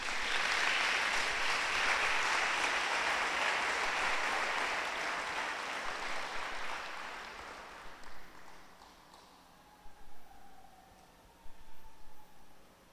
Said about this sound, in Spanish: Le damos un aplauso al Rey.